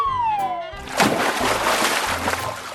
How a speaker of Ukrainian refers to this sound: Звісно, зараз буду пірнати прямо з цього обриву. Егей! Ого, тут високо, будь обережним. Ну все, я стрибаю.